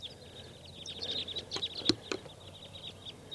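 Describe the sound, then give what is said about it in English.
A huge flock of about 20 to 25 type 2 crossbills calls with many overlapping, high-pitched chips and kips, fairly faint and steady, with a few sharper clicks mixed in and no voices. “A huge flock of crossbills is around here somewhere. Sounds like type 2.”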